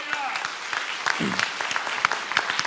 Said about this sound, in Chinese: 我们拍手将荣耀归给神。